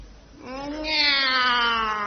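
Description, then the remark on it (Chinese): A single drawn-out cat meow, rising in pitch and then holding steady for over a second, fairly loud, with no talking around it. “喵。 哦，这还是个懒猫。”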